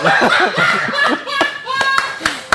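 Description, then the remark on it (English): A handful of sharp, scattered claps from an audience after a poem ring out over a busy murmur of voices and light laughter, building into brief, uneven applause near the end. “Why not see those big claps?”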